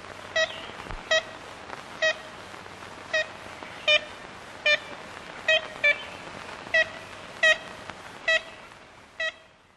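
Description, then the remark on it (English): A 1935 recording made in Louisiana by Arthur Allen of a bird giving a series of about a dozen short, nasal honking calls, like a child's tin horn, spaced unevenly over a steady background hiss. “Yeah, that sound has been described by a lot of the early naturalists as a child's tin horn.”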